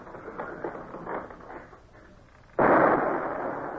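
A single heavy cannon shot from a ship's gun, fired at pursuing boats, booms out suddenly after a stretch of low rumbling background, its broad roar lingering and slowly fading over the next second.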